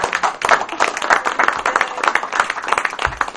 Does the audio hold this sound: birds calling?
no